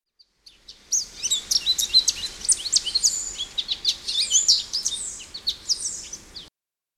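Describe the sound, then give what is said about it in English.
An American goldfinch sings a lively, rapid run of high twittering notes and warbles, clear, continuing for several seconds with no other sounds. “The American goldfinch sings any time of day, but is especially loud and lively in the morning.”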